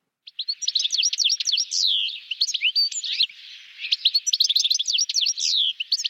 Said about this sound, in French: Alors, vous avez peut-être reconnu le chardonneret élégant.